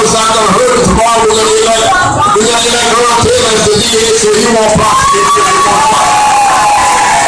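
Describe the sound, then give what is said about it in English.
A large crowd of Democrats at a political rally cheers and whoops loudly and continuously, a dense roar of many voices with shouts rising above it, sustained throughout. “has to suggest to this crowd of Democrats that they vote twice.”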